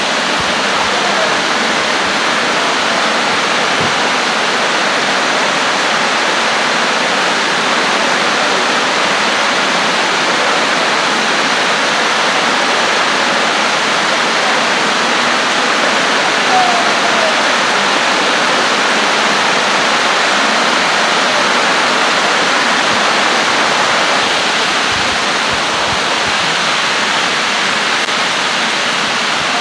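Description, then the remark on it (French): Heavy rain pours down in a dense, unbroken roar of hiss and patter, loud and steady for the full half minute with no voices over it, falling during a prayer gathering. “Trois personnes qui peuvent prier fort pour dépasser la pluie.”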